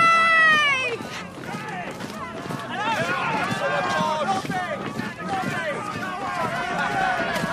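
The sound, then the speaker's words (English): A dense, continuous crowd din on a street, gathered to see soldiers coming up the street, many overlapping voices and cheering filling the whole stretch at steady loudness, with a high wavering voice standing out briefly at the start. “So many people. Why are there so many people?”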